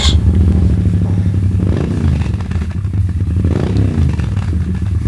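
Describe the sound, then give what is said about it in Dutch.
A motorcycle, not a naked bike, runs loud with a steady, throaty rumble, its engine pitch dipping and rising slightly as the throttle shifts, accompanied by faint mechanical clatter. “Maar moet ik zeggen wat voor soort motor het is? Of echt het merk ook weer?”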